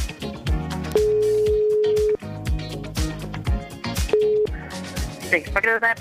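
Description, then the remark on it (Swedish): A telephone ringing tone sounds twice as the radio show Mix Megapol in Göteborg places a call, a long steady beep and then a shorter one, fairly loud and mixed with overlapping voices and busy background sound. “Jag ringer nu.”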